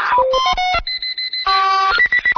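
A rapid series of electronic beeps and chirps from the XFX sound effects library, in shifting pitches, including a quick run of short repeated tones and a stuttering burst of blips at the end, loud with no talking.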